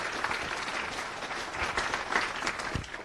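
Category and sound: crowd, audience applause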